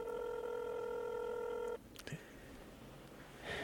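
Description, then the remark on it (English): An outgoing phone call being dialed: a steady electronic phone-line tone hums loudly for almost two seconds, then cuts off abruptly, followed by a sharp click and a quiet hiss of an open line. “It's not dialing yet.”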